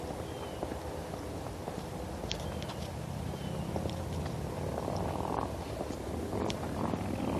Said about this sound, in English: That's a motorcycle, actually.